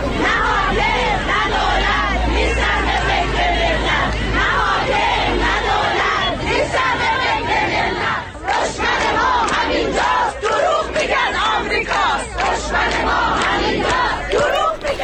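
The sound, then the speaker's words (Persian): A large crowd of retired teachers protesting their poor living conditions chants loudly and continuously in front of the provincial education office in Isfahan, Iran, on a Thursday morning, many voices shouting professional and political slogans together in a steady rhythmic roar, with a low rumble underneath for the first several seconds. “شعارهای اعتراضی فرهنگیان در اصفهان هم جنبه صنفی داشت و هم سیاسی.”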